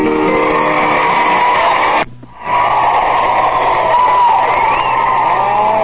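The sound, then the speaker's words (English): An audience applauds a singer after a song: a loud, steady wash of applause with cheering mixed in. It breaks off briefly partway through, then returns just as full and keeps going to the end. “Just listen to that applause.”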